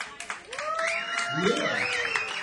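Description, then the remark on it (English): A crowd applauds for the band with steady, dense clapping, while rising and falling whoops and cheers ring out over it at a fairly loud, even level. “How about we hear for the band one more time?”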